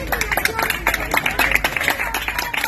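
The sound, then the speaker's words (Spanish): A group applauds steadily for a few seconds after a child says they want to be a firefighter pilot, many hands clapping in a dense, crackling patter that stays fairly even throughout, with a few voices faintly mixed in. “Un aplauso.”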